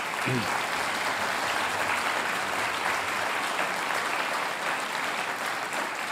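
An audience at a talk claps steadily and loudly for several seconds for the event's hosts, a dense, even wash of applause with a brief voice at the very start.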